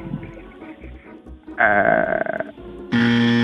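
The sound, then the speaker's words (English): A harsh quiz-show buzzer blares abruptly for about half a second at the end, buzzing a contestant out on a wrestling trivia question, loud and flat-pitched, after a softer, wavering tonal sound and low murmuring earlier on. “You're buzzed out.”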